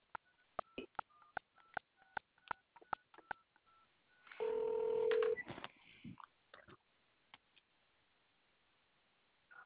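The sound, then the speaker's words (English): A quick series of touch-tone beeps as a number is dialed on a home telephone to call a sister, each short tone distinct, followed by a brief burst of line noise and a few faint clicks. “I call her on my home phone.”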